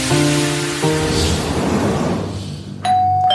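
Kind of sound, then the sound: household object, doorbell ringing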